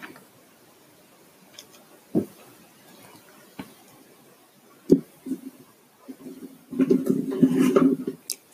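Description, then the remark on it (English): A few sharp, separate clinks ring out, then a busier stretch of rattling as pencils knock and jostle against the inside of a glass mason jar, fairly quiet. “Some of my pencils in it.”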